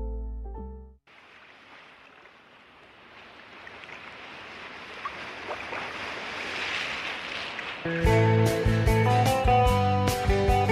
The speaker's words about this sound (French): Là dans le vent près de la mer, où il y a des milliers de rochers, tout près de la mer.